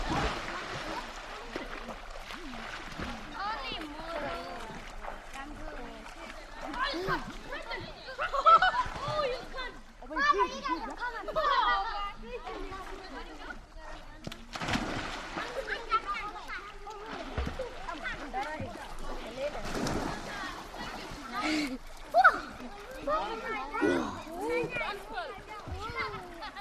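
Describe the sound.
People swim and splash in permanent spring water in a gorge in the mountains at Winnipeg Springs, with irregular sloshes and bursts of spray, while several voices chatter and call out over the splashing throughout.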